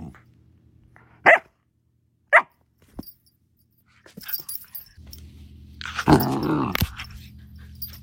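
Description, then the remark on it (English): A dog named Jet, a black Lab terrier mix, gives two sharp, separate barks a second apart, then a few softer yips, and ends with a louder, drawn-out burst of barking and growly noise over a low steady hum. “And now we have Jet, a black lab terrier mix whom we adopted from the shelter 5 weeks ago.”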